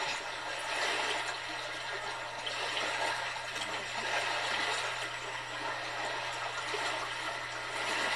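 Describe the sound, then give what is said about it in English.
Steady, gentle wash of calm sea water with soft, slow swells rising and falling, heard alone with a faint low hum underneath and no voices. “Today the sea is very calm.”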